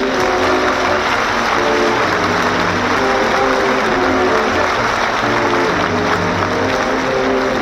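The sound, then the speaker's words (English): A large audience gives a last farewell cheer to the show's performers, applauding loudly and steadily, a dense wash of clapping with cheers mixed in, sustained at an even volume throughout with no one speaking over it. “for a real last cheer. Let's say goodbye to all of them.”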